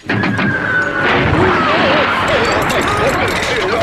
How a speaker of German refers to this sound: Ich bin aber auch zusammengezuckt. Das ist aber auch eine Type, dieser Motor. Eine richtige Knalltype.